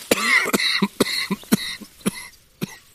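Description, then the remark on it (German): A coughing fit of roughly eight sharp, harsh coughs in quick, uneven succession, fairly loud, with short raspy breaths between them and no talking. “So, jetzt zum Schluss nochmal ein Hustenanfall.”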